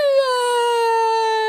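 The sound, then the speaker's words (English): A voice imitates a boy crying with one long, steady wail that slowly drifts downward in pitch, loud, with no other sounds around it. “And the boy got under the bed and cried.”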